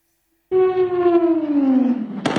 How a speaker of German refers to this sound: Explosionen in der Nacht in Venezuelas Hauptstadt Caracas.